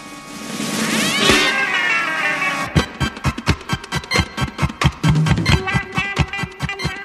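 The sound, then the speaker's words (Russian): A cat lets out a loud, drawn-out yowl that rises and falls for a couple of seconds, then gives way to a fast run of sharp, rhythmic thumps. “Но тут кот и пират проснулись.”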